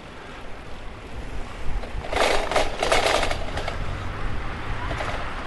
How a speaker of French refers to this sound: Alors, vous devez avoir un peu de vent. C'est pas parce que je roule super vite, hein, c'est parce que ben, y a du vent.